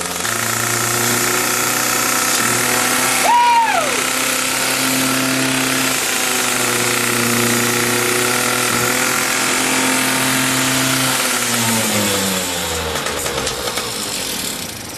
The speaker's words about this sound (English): It's a motorcycle, but is it a disc slinger? Give it revs! Full speed!